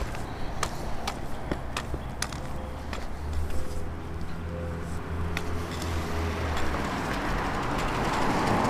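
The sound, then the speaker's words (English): Traffic noise on a street, with a steady low rumble and a broad whoosh that swells toward the end as a car on the right passes from front to behind, plus scattered faint clicks and ticks. “Cars on our right. That one was going from front of us to behind us.”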